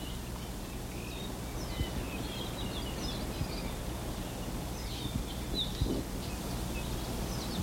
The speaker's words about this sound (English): The squeaky sounds are probably Apapanis. The more buzzy ones, there, that was an Omakihi.